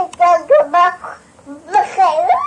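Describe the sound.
A young child's voice imitates crying with several wavering, whiny wails in quick bursts, fairly loud, with a brief pause before a final drawn-out sob.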